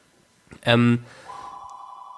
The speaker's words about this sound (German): Da ist das weltberühmte. Das Telefon mal wieder.